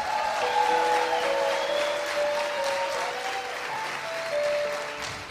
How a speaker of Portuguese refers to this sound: Um aplauso aos brasileiros, por favor.